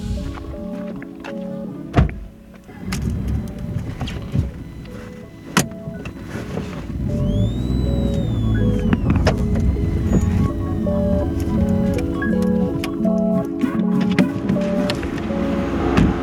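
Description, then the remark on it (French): A couple of thumps, then a car engine rumbles low and steady as the car creeps forward slowly at a farm, with a faint rising whine over the idle. No one speaks. “Vous pouvez avancer en voiture jusque là-bas.”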